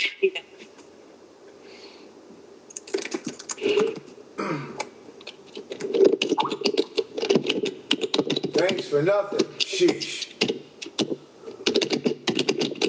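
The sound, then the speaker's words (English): Rapid, uneven clacking of computer keyboard keys, a dense run of sharp clicks that keeps going while a man talks briefly over it. “I'm typing so hard.”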